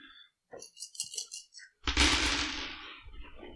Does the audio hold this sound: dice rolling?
yes